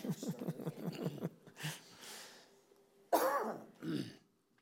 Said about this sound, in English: Okay. I wasn't coughing at all before.